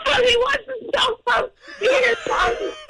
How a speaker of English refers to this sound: Mommy, before we let you go, because I hear my son screaming in the background, what is on because your Christmas...